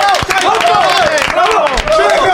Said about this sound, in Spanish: ¡Bravo! ¡Gracias, amigos! ¡Gracias! ¡Otro aplauso fuerte para Sega! ¡Otro de los mejores!